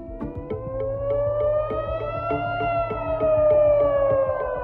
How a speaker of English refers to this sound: The sound of sirens pierced the night sky as a wave of Iranian weapons were intercepted over Israel.